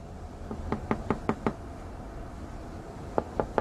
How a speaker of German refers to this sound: Ja, es hat geklopft. Kannst du aufmachen?